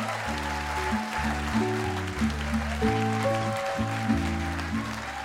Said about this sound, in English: So, a huge round of applause to all our, take a bow, our storytellers. All our storytellers, take a bow.